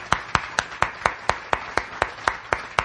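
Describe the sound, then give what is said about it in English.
Steady, evenly paced hand claps, about four per second, crisp, with no talking over them: applause for three special guests. “A big round of applause for our three special guests.”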